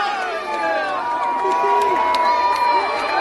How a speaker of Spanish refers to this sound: Los gritos de apoyo a Kylian Mbappé de aficionados franceses que quieren acercarse al ídolo de todo un país.